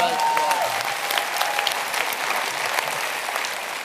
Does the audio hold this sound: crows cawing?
no